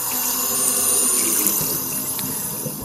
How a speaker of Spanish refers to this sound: Bueno, imagínate, es muy fácil, ¿eh? Abrir un grifo.